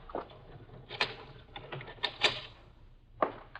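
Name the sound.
door being locked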